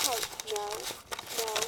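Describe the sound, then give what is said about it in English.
Fairly loud crinkling and crackling bursts, made to fake a bad phone connection, come in quick irregular spurts, with a voice sounding underneath and partly mimicking the static. “Oh, no. You're cutting out.”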